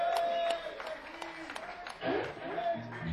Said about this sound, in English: And I'd like to say thanks to Big Dave up there, who's done a fantastic light show. Brilliant stuff. So can we have a round of applause for Dave?